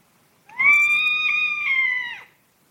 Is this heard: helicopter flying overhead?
no